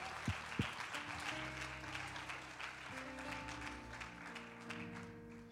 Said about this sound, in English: In Jesus' name, clap your hands one more time to the Lord as you're seated.